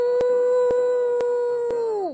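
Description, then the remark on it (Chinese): A single long, steady wolf howl holds one pitch for about two seconds, then slides downward and fades. Sharp, evenly spaced clicks sound through it, and no one speaks. “奥菲飞快地跑过草地，歪着脑袋又嚎叫起来， 嗷呜。 紧接着，在不远的地方也响起了回应的声音， 嗷呜！”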